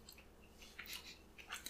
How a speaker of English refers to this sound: You put like 7 in your mouth and you didn't like it. And now you're chewing.